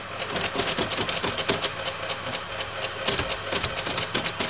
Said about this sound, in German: Es war zuweilen unerträglich laut. Das änderte sich zunächst auch dann nicht, als die ersten elektrischen Schreibmaschinen auf den Markt kamen. Im Schreibmaschinenmuseum ist eine aus den 1960er Jahren von IBM zu sehen und zu hören.